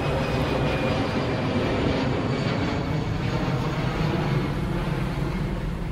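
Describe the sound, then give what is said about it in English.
A loud, steady roar of airplane engines passing overhead near O'Hare airport, with a constant low rumble and a faint high whine running through the whole stretch. No one speaks. “So some airplanes go by.”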